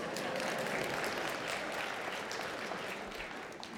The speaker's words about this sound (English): It was time for a good applause right there.